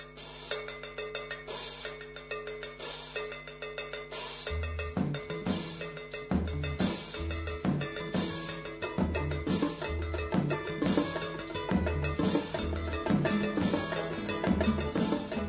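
A folk band plays with steady percussion, including a bright cowbell-like clank; bass and drums enter after a few seconds, building a lively, driving rhythm with no voices.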